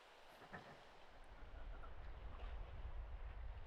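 nature, ocean waves

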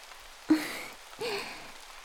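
nature, rain falling

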